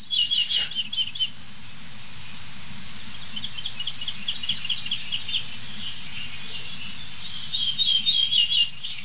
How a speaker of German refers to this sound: Bili, bili, bili, bada, bada, bada. Natürlich auch was Ammeriges. Es ist ja eine Ammer. Ortolan hieß früher auch Gartenammer. So häufig war dieser Vogel.